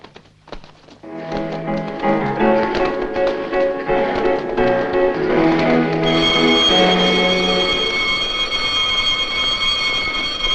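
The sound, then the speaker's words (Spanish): An alarm bell rings loudly and continuously, a harsh metallic clangor that starts after a brief pause and keeps going without letup, growing brighter and more piercing toward the end. “¿Qué es esto? Es el timbre de alarma.”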